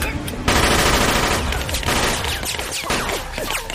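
A loud, sustained burst of rapid gunfire in a warehouse erupts after a brief moment, shots blurring into a dense, continuous volley that keeps going to the end, with faint shouting mixed in.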